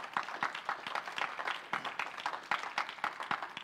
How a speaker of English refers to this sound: Isn't God good? Clap your hands for God. Isn't he good?